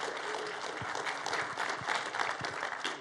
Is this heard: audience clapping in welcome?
yes